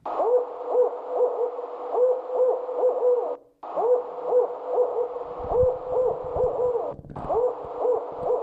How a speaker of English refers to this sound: We don't have this bird. Why'd you play it for us then? Because it's such an interesting voice. It's called a barred owl, B-A-R-R-E-D, meaning it's named for its wing, the bars on the wings. Again, it's an East of the Rockies guy